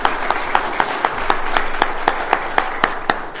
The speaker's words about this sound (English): You noticed it was our father who led the applause there. That's great.